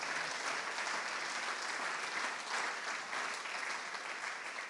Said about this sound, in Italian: Facciamo un applauso a Gesù, per favore.